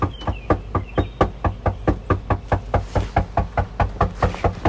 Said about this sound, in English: We headed back and knocked on the door aggressively. What do you mean by aggressively?